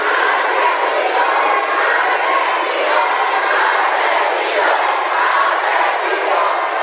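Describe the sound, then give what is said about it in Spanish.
A large crowd of students at a university boos and shouts during a visit by former governor Enrique Peña Nieto, a loud, dense wall of angry voices with overlapping yells rising and falling throughout; the words "Atenco" and "asesino" can be made out. “Entre abucheos y gritos se alcanza a entender Atenco y asesino.”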